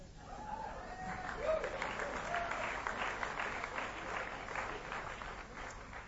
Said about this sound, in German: Dank an die University of Maryland, die uns diesen wunderschönen Kinosaal zur Verfügung gestellt hat. Also bei Gott hätten Sie auch ruhig klatschen können.